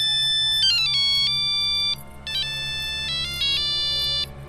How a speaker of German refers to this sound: Wieder ertönte der Spukalarm auf dem Handy.